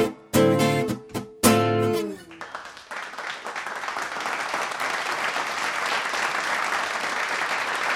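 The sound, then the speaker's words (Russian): A final sung or musical note breaks off, then an audience bursts into dense, steady applause that keeps going evenly to the end, fairly loud. “Я слышу ваши аплодисменты, спасибо.”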